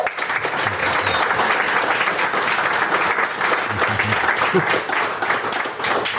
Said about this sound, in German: Ach, ist es nicht herrlich? Also normalerweise sitzen wir ja immer im Studio und jetzt auf einmal Applaus, wärmender Applaus.